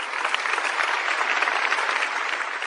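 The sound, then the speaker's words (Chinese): An audience of more than 16,000 in downtown Louisville applauds steadily to welcome the Dalai Lama, a dense, continuous wash of many hands clapping at once, holding an even loudness throughout with no voices standing out. “当天下午2点钟，路易维尔市市长格莱格·菲舍尔在该市中心同16000多位观众热烈欢迎了达赖喇嘛尊者。”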